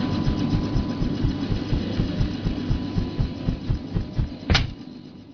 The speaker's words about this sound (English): Let me just climb down the rope out of our trusty transport chopper here, and we'll start the hunt.